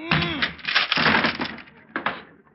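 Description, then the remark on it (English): A heavy crash as a man rams his head against a wooden closet door, followed by a burst of cracking and splintering wood, then a couple of sharper snaps near the end, loud. “I used my head on the last one.”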